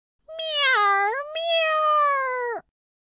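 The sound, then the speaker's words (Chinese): Heidi the cat, stuck in a door hole, lets out one long, drawn-out yowling meow, rising and wavering before breaking off abruptly. It is loud, with no other sounds around it. “喵！ 海蒂大叫。他呻吟着，叫喊着。”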